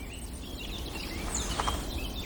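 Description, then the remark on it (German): Woodpeckers' scolding calls in the morning: a few faint, sharp, high chirps come and go over a steady low rumble, with a brief brighter burst toward the end. “Da wird der Schimpf der Spechte.”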